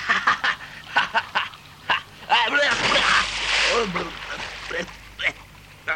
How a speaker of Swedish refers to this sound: Kapten skredyra resulterade i att han halkade på flotten och drattade på ändan ner under vattenytan.